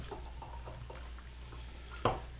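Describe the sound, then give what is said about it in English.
A lightly bubbly blood orange vodka drink pours into a glass with soft gurgling trickles over a low steady hum, ending in a sharper clink near the finish. Quiet, with no talking. “I'm pouring it in the glass, bubbles, but not a lot.”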